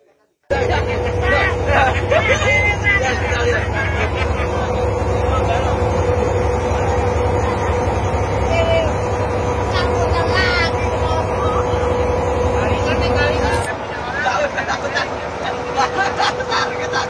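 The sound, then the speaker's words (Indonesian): A boat engine drones steadily and loudly on the water near Pulau Penyengat and Tanjung Pinang, Riau, Indonesia, a constant low hum with faint voices murmuring beneath it, the tone shifting abruptly near the end. “Tapi depan ada perahu.”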